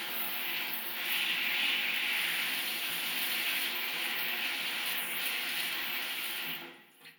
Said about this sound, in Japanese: あ、まずはシャワーでしっかりとお体を濡らしますね。お腹からゆっくりと撫でて、いいえ、洗ってあげますね。シャワーの湯加減は大丈夫ですか？